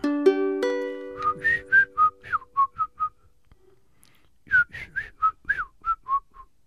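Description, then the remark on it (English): A bird outside a window sings a clear, whistled melody in two phrases of about eight quick, bright notes each, separated by a short pause, after a brief buzzy tone at the start. “And I put the phone down, and at that very instant, a bird out my window.”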